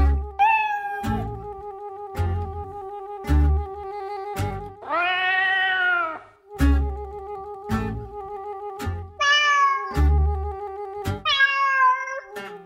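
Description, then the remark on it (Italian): A hairless cat meows several times, long drawn-out calls spaced a few seconds apart, loud, over a steady humming tone and regular soft thumps, with no one talking. “Infatti non li ha, perché anche un micio abbastanza chiacchierone.”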